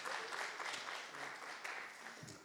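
A crowd applauds steadily, a dense wash of many hands clapping at an even level for a couple of seconds, with no one speaking over it.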